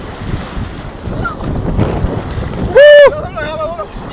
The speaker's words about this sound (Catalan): Bueno, i mentre estàvem dins de l'aigua, ens va arribar una onada bastant important, no? Sí, n'hi havia unes quantes, però n'hi havia una que era més gran que totes.